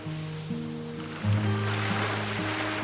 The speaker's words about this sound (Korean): 파도가 새벽을 깨우기도 하였고, 여름이면 인산인해, 사람도 바다였다.